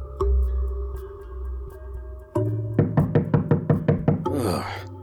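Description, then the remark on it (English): Police officer Gutierri and his squad pound their fists on Spezia's front door one morning in fall 2004, a fast run of about eight heavy, evenly spaced loud thuds over a low sustained musical drone with no talking. “So, one morning in the fall of 2004, Gutierri and his squad came pounding on Spezia's front door.”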